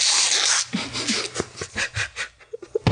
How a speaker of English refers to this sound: I'm about to blow my nose on my shirt.